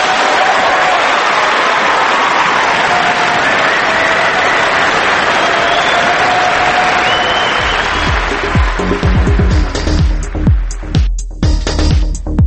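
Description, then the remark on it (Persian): Sustained audience applause in honour of a remark by Hamid Baghaei, a dense roar of clapping at steady loudness that thins out toward the end, with a low rumbling hum emerging underneath in the last few seconds. “علکی که ما کسی رو تشویق نمیکنیم که،”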